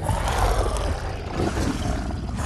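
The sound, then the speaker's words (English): A monstrous dragon roar for a film, made from recordings of elephants, camels, horses, birds and leopards that were mixed, modulated and blended with a human voice; deep and rasping, it rumbles loudly and steadily for a couple of seconds with a gritty, layered growl and no pauses or voices. “for the roughly 25 different dragon species in the new movie, he and his team recorded all kinds of animals, elephants, camels, horses, birds, leopards, and then mixed them up and modulated them.”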